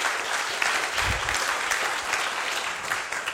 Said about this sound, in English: Can we give a little round of applause to the worship team there? That's really great.